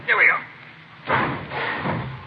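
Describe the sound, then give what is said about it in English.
A garage door swings open with a brief scrape, then a broad rattling rush and a second, softer clatter as it settles, moderately loud, on a chilly day. “Want to stand back? I don't want to hit you. Watch the door”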